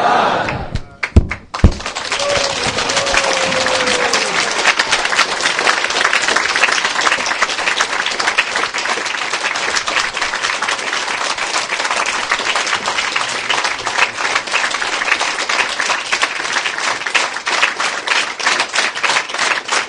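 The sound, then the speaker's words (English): A crowd applauds steadily as a lecture finishes, a dense wash of many hands clapping at once, loud and sustained after a few sharp thuds at the start. “Clapping because I finished.”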